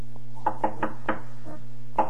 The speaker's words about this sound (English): finally, on the night before the last day of Pesach, Rabbi Cheskel was sitting exhausted in his study, trying to keep his eyes on a large volume of the Shulchan Aruch, when suddenly he heard a loud knocking on the door.